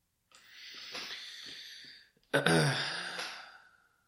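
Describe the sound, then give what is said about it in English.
A person breathes: a long, airy inhale followed by a louder, sighing exhale, with no talking. “I heard you breathing.”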